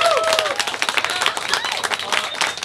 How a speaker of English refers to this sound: Everyone, I want to give a big round of applause, please, get to your guys' self for being here. Thank you.